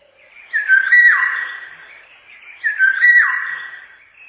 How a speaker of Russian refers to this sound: Одна вот из красивейших наших птиц, которую все знают понаслышке, но далеко не все видели в природе, слышать, возможно, и слышали, но не знают, что это именно ее крик, это Иволга.